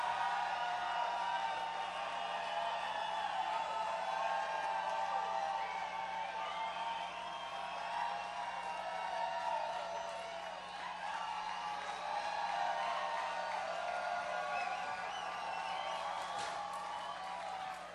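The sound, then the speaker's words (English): A large crowd yells and cheers for one more, without pause, a dense, steady roar of many voices with scattered whoops rising above it, holding at a loud, even level throughout. “You're going to have to yell louder than that if you want one more.”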